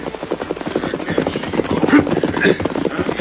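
Rapid, steady drumming of a horse's hooves, fairly loud, as a horse and rider gallop in from the east to an outlaw camp in the hills. It is a continuous rhythmic beat with no one speaking.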